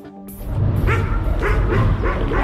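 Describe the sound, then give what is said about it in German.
Two stray dogs roaming in a suburb of Tbilisi, Georgia, bark repeatedly in quick, overlapping bursts, fairly loud, with a low rumble of background noise throughout. “Wir sind in einem Vorort von Tiflis. 2 Hunde streunen umher.”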